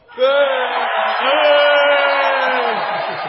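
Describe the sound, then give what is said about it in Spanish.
An audience lets out a loud, sustained collective shout in unison on a count of two, a single held cry of complaint against the universe from many voices, lasting about three seconds before trailing off. “Grito de queja ante el universo. A la cuenta de... A la cuenta de dos. Uno, dos.”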